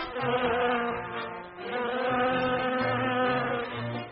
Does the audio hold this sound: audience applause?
no